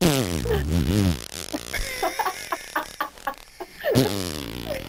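A long, wavering, buzzy fart opens, followed by a string of short sputtering pops and a final drawn-out blurt, all loud and close with no talking.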